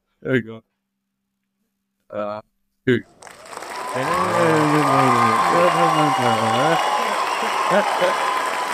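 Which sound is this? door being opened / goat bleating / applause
applause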